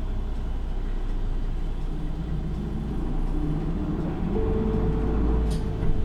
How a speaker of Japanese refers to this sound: お待たせいたしました。本日も大船交通バスをご利用いただきありがとうございます。このバスは羽田台経由、取手駅行きです。